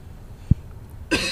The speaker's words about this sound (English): Was it you just coughing in the back of the car then? That was me coughing in the back of the car.